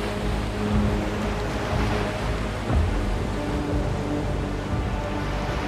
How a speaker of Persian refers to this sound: دریا خروشان و مواجه.